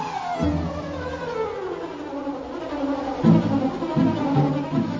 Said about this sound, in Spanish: Y de todas las regiones del mundo entero, es América tropical la que mejores condiciones tiene para el desarrollo de las flores apícolas. Claro, por el tipo de clima. Por esta razón es que abundan por millones colonias de abejas. ¡Zum!